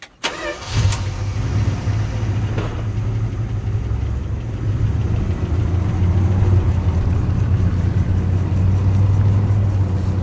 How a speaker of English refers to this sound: After she goes inside, Ed starts his truck and drives away.